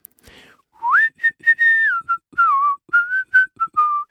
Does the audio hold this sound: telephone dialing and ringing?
no